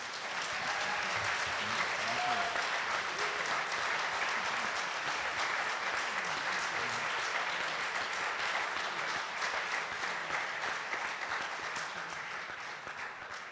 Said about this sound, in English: And firstly, before we go into Q&A, I just want to ask for a huge round of applause.